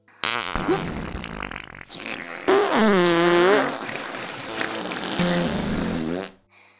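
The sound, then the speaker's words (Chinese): A loud, continuous run of fart sound effects portraying a group of skunk girls all farting at once, several overlapping blasts with buzzy, wobbling pitch that rises and falls over about six seconds, with no talking. “姐妹们，让他们感受一下你们的陈年佳酿吧。放屁。”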